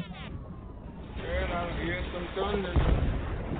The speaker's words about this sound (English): Girl, I hear some thunder.